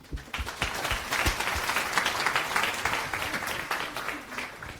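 A crowd breaks into steady applause, many hands clapping in a dense, continuous patter that stays fairly loud and even for several seconds, with no one talking over it.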